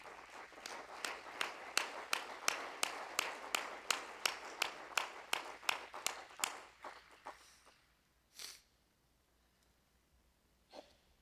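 An audience claps hands together in praise, in a steady, quick rhythm, about twenty sharp claps over seven seconds, then stops, leaving a couple of stray soft noises.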